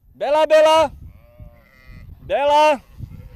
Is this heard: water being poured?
no